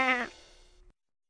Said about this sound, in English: What's that? It's a sheep. It's a sheep.